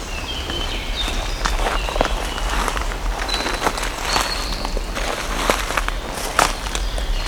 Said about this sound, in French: Nous marchons entre les feuilles mortes, les brindilles qui craquent, les fougères, les premiers massifs de fleurs.